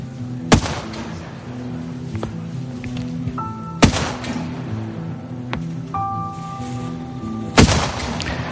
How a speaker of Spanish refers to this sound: El lugar donde estamos es una zona boscosa y en mitad del silencio se escuchan las maniobras y los disparos.